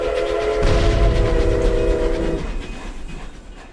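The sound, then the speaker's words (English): A tram rolls past, a heavy low rumble with a sustained horn-like tone that cuts off partway, then the rumble fades as it moves away. No voices. “Deep Run Tram, last call for mail.”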